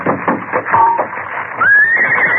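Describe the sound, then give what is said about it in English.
A horse neighs loudly, a shrill whinny that wavers and then rises into a long, trembling cry, with a muffled, tinny quality like an old recording. “We'll get our horses from across the tracks and follow the train.”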